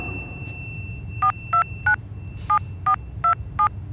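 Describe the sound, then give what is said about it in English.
A phone keypad dials a number: seven short touch-tone beeps, three quick ones, a brief pause, then four more, sounding clear over a low background hum, before the call starts ringing. “It's ringing.”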